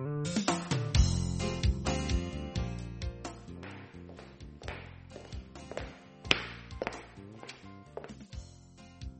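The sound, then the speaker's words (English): Footsteps of someone walking, a steady run of sharp taps repeating for several seconds, with faint tonal sounds underneath and no talking. “I hear someone walking.”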